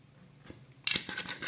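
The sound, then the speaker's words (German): A short, hissy slurp as the last drops of a drink are sucked out, a burst of airy, gurgling noise after a quiet moment with no talking. “Letzten Tropfen rausgesaugt.”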